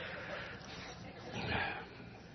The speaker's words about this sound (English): See what happens when you get me emotional. Jeez. Sorry. You're supposed to mute the mic when I blow my nose.